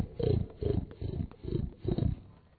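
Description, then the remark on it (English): A voice imitates a pig in a song about farm animals, giving five low, throaty oinks in a steady rhythm, each short grunt fairly loud, with brief pauses between them. “I had a piggy, and the piggy pleased me. I fed my piggy by the green apple tree. My old piggy went.”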